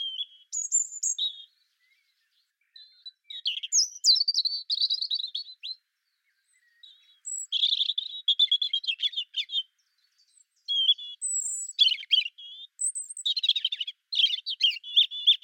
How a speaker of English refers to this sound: So if you have a bird that's singing a sweet, wistful song, short verses, every verse is different, and within those verses, you can hear this wateriness, this trickling and gurgling, then that's the robin.